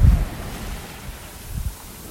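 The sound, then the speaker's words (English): Water sloshes and breaks against a sailboat hull about 3 miles off the coast of Northern California, just south of Eureka, in low, rumbling surges, with a heavier wash at the start and another swell near the end, over steady wind noise. “You can hear the waves breaking against the hull.”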